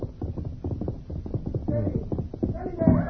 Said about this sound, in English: Ranger and Tonto made camp for the night. They became alert at the sound of approaching hoofbeats.